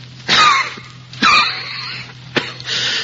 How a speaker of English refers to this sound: I cough.